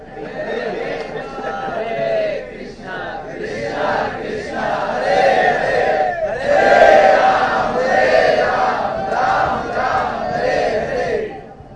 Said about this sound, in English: Everybody's screaming, nobody's chanting.